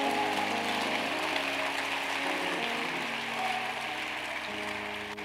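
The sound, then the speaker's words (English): A crowd claps steadily and densely, a continuous wash of applause, with sustained organ or keyboard chords playing underneath throughout. “Are you clapping? Come on, somebody. Are you clapping?”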